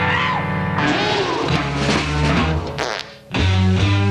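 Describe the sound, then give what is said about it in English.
Loud, buzzy fart sounds blare, a long wavering one that shifts in pitch, then a brief dip before another strong, low raspy burst. “keeps farting at me.”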